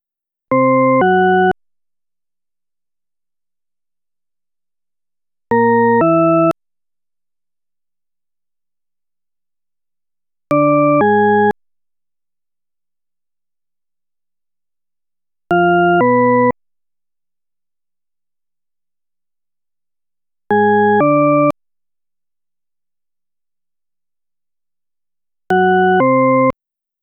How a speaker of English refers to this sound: If the second tone sounds higher, draw an upward arrow on your answer sheet to indicate an ascending pattern. If the second tone sounds lower, draw a downward arrow to indicate a descending pattern.